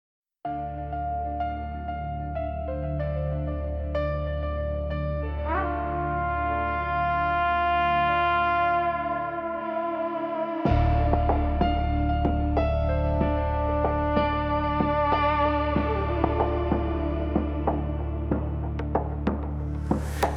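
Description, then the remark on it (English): An instrumental music intro opens with sustained, layered synth tones that slowly build, then about halfway through a fuller arrangement with deep bass and crisp percussive hits kicks in. There are no vocals. “Now stay with us for an original track created especially for this episode and inspired by the article you've just heard about.”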